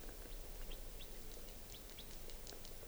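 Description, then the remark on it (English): A wild type 4 bird calls in a series of short, thin chirps scattered irregularly across a steady outdoor hiss. The calls sound faint, and no one speaks. “Pointed at the wild bird.”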